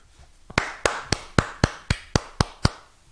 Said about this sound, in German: Ich habe gerade mit einer Hand geklatscht.